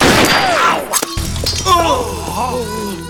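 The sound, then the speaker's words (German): A single sharp gunshot cracks out amid excited voices and shouts as a well-aimed shot by Lucky Luke knocks the knife from a Cheyenne's hand, then a low, steady droning tone continues underneath as voices carry on. “Ein gezielter Schuss schießt dem Cheyenne das Messer aus der Hand.”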